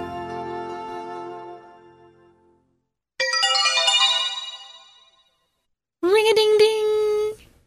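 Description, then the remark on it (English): Bells ring out in three separate bright, chiming bursts with pauses between, each a cluster of high, ringing tones that fade away. No voices are heard. “I hear bells. It must be Santa with his reindeer and his sled filled with toys.”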